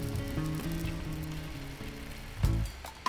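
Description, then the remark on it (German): Steady rain falls in a continuous, even hiss, moderately loud throughout, with low sustained tones underneath and a brief thump near the end. “Sie schaut aus dem Fenster. Es regnet.”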